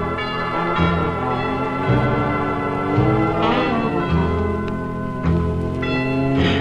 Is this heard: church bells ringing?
yes